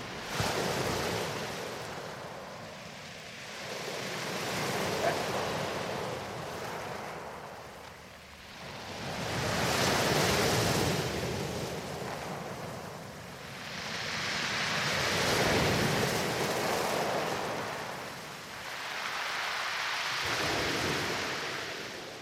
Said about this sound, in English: the waves are retreating back over lots of shingle, and we have that lovely sound of the stones washing back against each other. I'll get as close as I dare with the microphone so you can actually hear that wonderful sound. It's almost therapeutic.